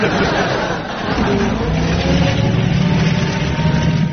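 A heavy old lorry engine rumbles loudly and steadily as the lorry is driven at over 30 miles an hour, with a low throbbing drone and rough mechanical noise, dipping briefly near the start before carrying on.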